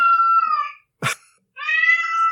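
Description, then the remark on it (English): A cat yowls loudly in two long, wavering screams separated by a sharp burst of noise, intense with no talking. “A cat screaming, too.”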